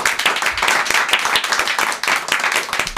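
Steady audience applause, a dense patter of many hands clapping at a fairly even loudness throughout, with no one speaking over it.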